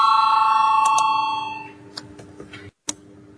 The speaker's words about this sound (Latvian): Lūdzu zvanu, balsosim par 12. deputāta Vucāna priekšlikumu. Lūdzu balsosim.